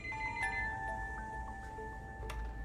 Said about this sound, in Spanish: Pero en ese momento el teléfono sonó.